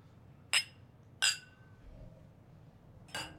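glasses clinking

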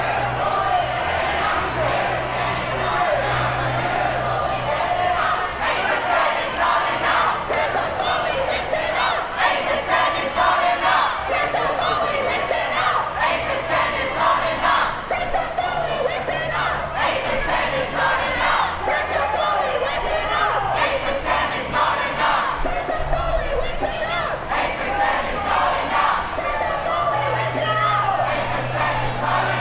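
crowd

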